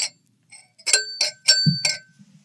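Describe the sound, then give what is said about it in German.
A drinking glass from the Bullerei clinks sharply several times in quick succession, each strike leaving a bright, lingering ring, with a soft low thud near the end; the glass stays intact, with no shattering. “Und das Glas ist heil geblieben.”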